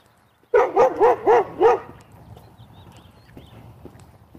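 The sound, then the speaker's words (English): A dog behind a fence lets out five quick, evenly spaced barks in a row, fairly loud, then falls silent, leaving only a soft outdoor background rumble, on a day in the middle 30s. “Might have been a dog behind that fence.”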